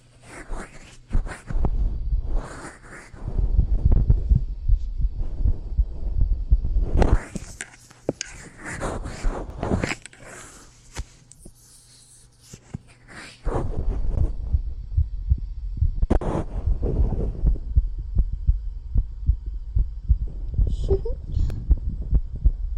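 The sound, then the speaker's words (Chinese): A fast heartbeat, heard with an ear pressed against a person's chest, thumps in quick, steady low pulses that run through the whole stretch, with soft breathy whispering and rustling noises over it at times. “你们吸血鬼的心跳比你们人类的要快很多呢，对吧？”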